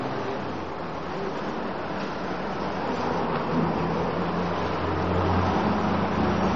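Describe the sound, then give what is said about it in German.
Steady, continuous street traffic noise, a broad low rumble of passing cars that holds at an even, moderate level throughout with no voices. “Wir warten ein wenig, bis der Straßenlärm.”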